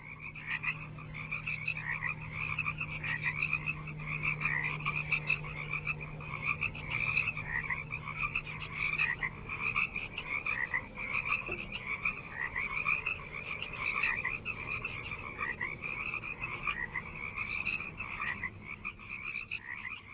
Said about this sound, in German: Mit Fröschen, also zyklisch zu bestimmten Jahreszeiten wiederkehrenden, klar erkennbaren Klängen aus der Natur, ließ Murray Schafer, der Begründer der Klangökologie, seinen Appell für eine Gestaltung auch unserer akustischen Umwelt auf der Doppel-LP